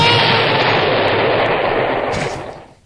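A huge midair explosion erupts with a loud, dense roar that holds for over two seconds before quickly fading away. It sounds overwhelming, with no voices.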